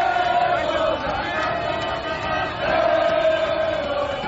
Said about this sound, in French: Une foule de supporters aux couleurs vert-jaune-rouge du drapeau national a de nouveau déferlé dans les rues. Objectif, saluer les champions d'Afrique à leur manière. Parade de centaines de mototaxis. Concert de klaxons. Chants de supporters.